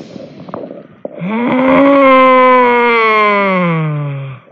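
During a yoga session in fish pose (Matsyasana), a soft inhale gives way to a long, forceful voiced "haaa" exhale. This lion's breath lasts over three seconds, loud and steady with a slowly falling pitch before cutting off.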